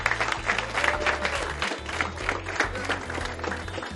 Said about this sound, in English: So clap it up and welcome to the music.